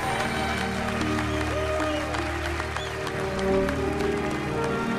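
Steady applause among reporters, a dense wash of clapping that holds at an even level throughout, with a murmuring crowd and faint tonal sounds beneath it.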